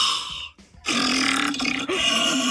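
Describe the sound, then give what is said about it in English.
A human voice imitates a lion's roar through an empty paper towel roll for a roar challenge: a short snorting burst, a brief pause, then a long, loud, raspy growling roar with a hollow, resonant tone. “there's one trending here about imitating a lion's roar.”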